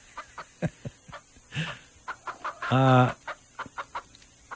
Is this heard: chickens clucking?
yes